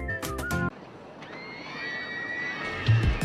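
A single loud cow moo, about half a second long, cuts off abruptly. Quieter open-air background noise follows, with a faint crowd-like murmur.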